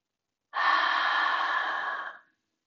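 A single long, steady exhale blown out through the mouth after breathing in through the nose, during a guided relaxation breathing exercise, breathy, lasting nearly two seconds before fading off, with no talking.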